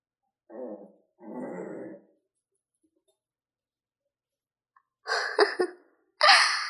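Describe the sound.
A person mimics an angry dog, giving two rough, throaty growls, then after a pause two sharper, louder snarling bursts. No one speaks.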